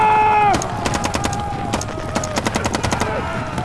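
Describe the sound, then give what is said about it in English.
Sharp gunshots crack out irregularly, then fire in quick rattling bursts like automatic weapons, over a loud, steady mechanical whine with a high tonal hum. “We ride now for the tribe! Fire!”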